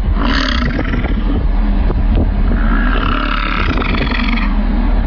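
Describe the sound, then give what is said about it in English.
A male bison, sticking its tongue out, lets out a long, deep, rumbling grunt that swells into a loud guttural roar, thick with low growling tones and a raspy burp-like quality, with no speech. “Thank you, YouTuber Jim Doss, who posted this 9-second video of a male bison sticking his tongue out like it was a fraternity burping contest and just letting the grunts rip.”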